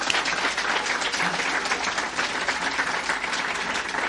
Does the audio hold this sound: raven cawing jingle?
no